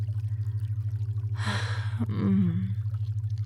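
A single soft slosh of warm hot-tub water as someone steps down onto the first step, followed by a short breathy gasp, all over a constant low electrical hum.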